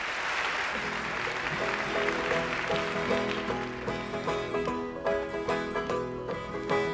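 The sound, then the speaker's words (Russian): A large audience in a concert hall claps loudly in a dense, steady wash for the first few seconds, then the applause thins as music with sustained tones takes over. “И именно в тот момент, когда звучат эти слова, зал взрывается аплодисментами, как бы подтверждая мое предположение.”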